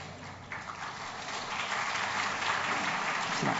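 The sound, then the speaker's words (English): An audience applauds the standing Sunday school teachers, group leaders and pastors: a steady crackling wash of many hands clapping that holds for a few seconds and grows slightly louder toward the end, with no voices heard. “I didn't ask them to clap.”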